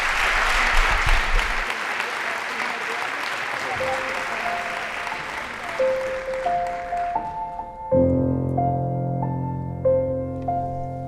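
A crowd claps steadily for an amateur astronomer in a dense, noisy burst for several seconds. The applause fades as a soft, tonal melody of single sustained notes rises and takes over.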